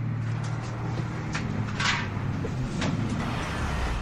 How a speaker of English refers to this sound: The man was now smiling, ear to ear. The bus door opened, and he quickly hopped in.